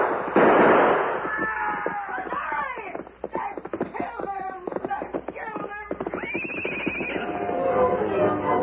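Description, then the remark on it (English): A volley of gunshots: a loud blast, then a rapid, irregular string of sharp cracking pops for several seconds, with shouting voices and other noise mixed in before it tapers off. “He's glad to go anywhere if it's away from that shooting.”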